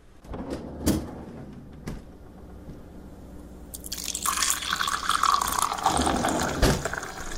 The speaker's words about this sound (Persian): یه لیوان آب برای خودم ریختم، نشستم پشت کامپیوتر و بساط.